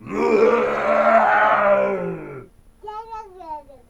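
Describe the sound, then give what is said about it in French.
The larger of two lions guarding the entrance to the dragon king's domain gives a loud, menacing roar that rumbles for over two seconds and sinks in pitch, followed after a short pause by a higher, wavering vocal cry. “L'entrée était gardée par deux lions. Le plus gros rugit d'un air menaçant.”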